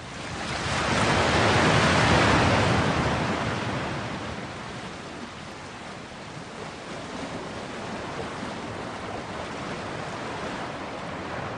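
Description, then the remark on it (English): Steady synthetic ocean surf from the waves setting of an SU1W sound therapy machine plays alone, a broad hissing wash that swells louder in the first few seconds, then eases into a constant, even rush of waves with no voices. “The next one is waves.”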